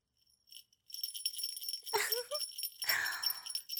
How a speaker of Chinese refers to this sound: 现在铃铛声响了，可以开始撸啊，快一点啊，说不定主人随时都会把铃铛停下来。